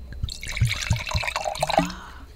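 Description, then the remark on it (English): Wine is poured into a glass for tasting, a short burst of gurgling, bubbly glugs and splashes with a few rising liquid tones, lasting a couple of seconds with no talking. “Do a little pour right in front of it.”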